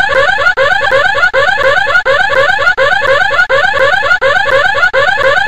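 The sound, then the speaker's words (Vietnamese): A loud burglar alarm rings continuously with a harsh, buzzing tone, broken by brief regular gaps about every three-quarters of a second, insistent with no voices. “tiếng chuông báo động vang lên, và đó là thứ âm thanh to nhất mà Tracy từng nghe thấy”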